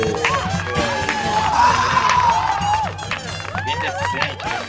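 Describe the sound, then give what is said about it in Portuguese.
An audience applauds and cheers to welcome a stand-up comedian, a dense, steady wash of clapping and shouting voices with a long rising whoop in the middle, staying loud throughout and easing slightly near the end. “Uma salva de palmas.”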